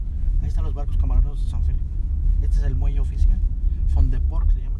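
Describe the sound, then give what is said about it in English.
A steady, loud low rumble of a car driving along a coastline fills the whole stretch, heard from inside the vehicle, with people talking over the road noise. “get back in the car to go see how things work over there.”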